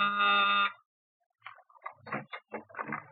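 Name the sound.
door buzzer ringing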